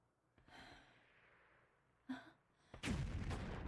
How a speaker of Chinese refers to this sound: 你听，远处的炮声，战事还没有停止，局势会不会有什么变化？